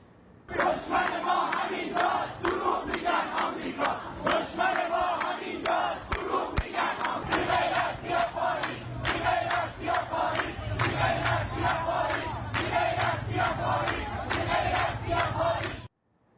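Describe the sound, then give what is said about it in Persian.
A large protest crowd in front of the Abadan Water and Wastewater Organization in Khuzestan province chants loudly and continuously, voices rising together in repeated rhythmic bursts of shouting that fill the whole recording without pause. “بعد تشکیل صفای طولانی آب شیرین برای گرفتن آب شیرین، آب خوردن و تظاهرات در استان خوزستان دارم صحبت میکنم، تظاهرات جلو سازمان آب و فاضلاب آبادان جدیتر میشه.”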